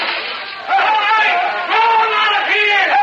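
An angry crowd of townspeople out front yells and shouts together for the hatchet killer, many raised voices overlapping in a loud, continuous roar that surges in waves, with no single voice standing out.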